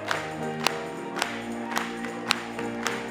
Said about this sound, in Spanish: Gloria a Dios. Vamos a aplaudirle. Aplaudamos para él.